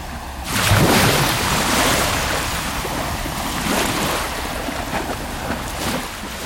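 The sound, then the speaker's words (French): Loud surf breaks with a heavy crash near the start, then keeps churning and hissing as waves strike and wash over rock, rising again in smaller surges. No voices. “probablement avec cette idée de reconnaissance des milieux battus de la Bretagne, des environnements où les moules se fixent, qui correspondent à des bruits de vagues frappant la roche.”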